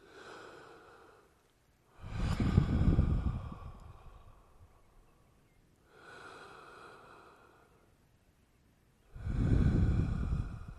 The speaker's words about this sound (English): So what do? You just pull back, remind yourself, okay, now, the breathing.